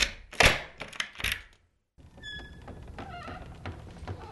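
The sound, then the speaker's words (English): Metallic clunks and a thud as a key turns in the lock of a property's main entrance door, a brief pause, then the door creaks slowly open onto the living room with a couple of high squeaks over faint ambience. “I've got the keys here, so let's go in and have a look, shall we?”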